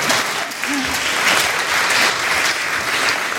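A round of applause from a group, steady dense clapping at an even loudness for the whole few seconds, with no pauses and no voices rising above it.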